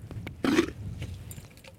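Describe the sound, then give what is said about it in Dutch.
A short, wet gurgling burst of groundwater bubbling up in a soil borehole, low and throaty, swelling briefly then fading into a soft murmur with faint scraping noises. “Hoor je het grondwater, hoor je dit?”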